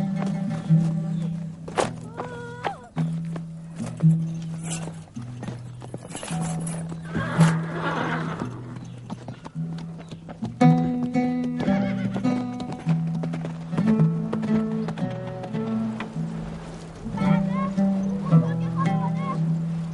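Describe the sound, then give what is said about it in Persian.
Horse hooves clip-clop steadily while a horse neighs and whinnies several times, with a few faint voices in the background. “به دشت جدون برو و یعقوب را بگو که زود به اینجا بیاید. عجله کن، با اسب من برو.”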